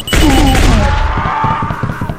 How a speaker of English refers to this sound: And yeah, I don't know if I like these new step sounds.